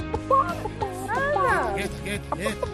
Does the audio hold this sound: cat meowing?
no